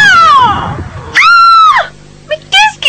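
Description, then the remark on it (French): A loud, shrill scream rings out in the middle of the night in several strained bursts: a falling wail, then a long sustained cry, followed by two shorter shrieks. “Mais t'es malade de crier comme ça!”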